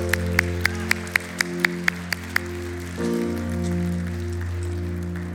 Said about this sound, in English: Can we give God a hand clap this morning?